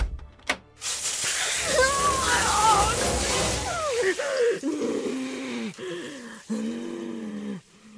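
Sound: water spraying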